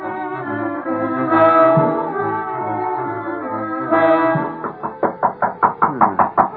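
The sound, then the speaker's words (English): Sustained, droning musical tones give way to a quick, evenly spaced series of about eight knocks on a door, fairly loud, with the music still ringing underneath. “The door. Somebody hears a knock.”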